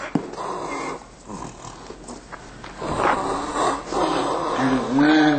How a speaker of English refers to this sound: This calf's suffering is evident by her vocal bellowing, labored breathing, and frantic attempts to escape.